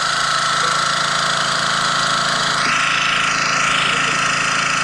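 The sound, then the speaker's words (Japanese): A loud, steady engine drones as an engine-powered automatic log splitter runs with a log set in it, its pitch shifting and straining under load midway while the firewood is forced apart with a creaking crack, with no voices heard. “自動巻き割り機。 もう一回行かせていただいていいですか。 あ、聞きます。でもエンジン音ですけどね。今、木をセットしております。今、メリメリという音とともに。”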